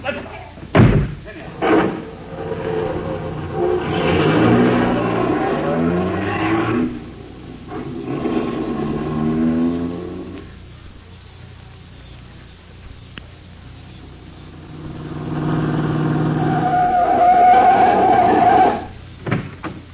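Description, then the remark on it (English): A couple of sharp car door slams open the scene, followed by a loud engine revving up and pulling away in rising and falling surges that fade briefly before roaring again. “All right, in the car, you two. Hurry it up.”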